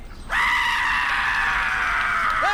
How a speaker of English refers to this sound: Hey, hey, look, check this out. You're not going to believe this. Ready? It's a goat. It screams like a person.